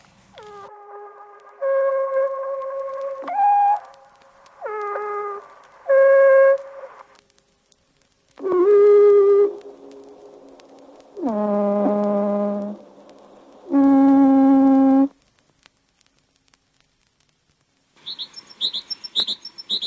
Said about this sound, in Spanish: Lo que hace es ralentiza el canto de los pájaros para que apreciemos mejor todas las modulaciones y todo eso.